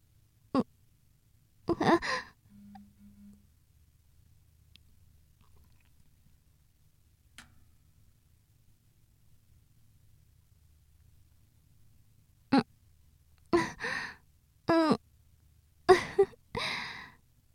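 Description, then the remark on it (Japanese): Wet mouth sounds of sucking and smacking on a woman's nipple come in short irregular bursts, separated by a long quiet pause, then cluster together again near the end. No one speaks. “チュパチュパって吸って、完全に赤ちゃんみたいですよ。”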